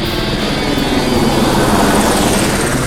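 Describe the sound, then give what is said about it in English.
A helicopter climbing fast and high at a steep angle roars loudly, its engine and rotor noise a dense, steady wash that holds constant for the whole moment with no voices. “Rock took the chopper up fast and high at a steep angle”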